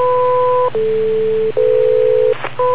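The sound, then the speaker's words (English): Radio repeater beep tones: a string of four steady electronic tones, each about half a second long, stepping between pitches with brief breaks, loud over a constant low buzzing hum. “the beep came now.”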